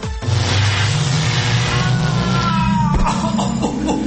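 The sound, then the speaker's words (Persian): A time machine powering up: a loud, steady electronic rumble with deep droning hum and rising, sweeping whine, heard alone, shifting abruptly near the end. “ماشین زمانش رو امروز روشن کرده کجا میفته.”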